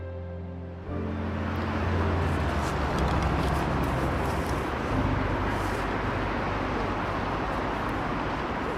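Busy city street traffic in Jordan's modern capital, with car horns, fills the scene with a dense, continuous roar of engines and road noise, steady and loud throughout after a low rumbling start.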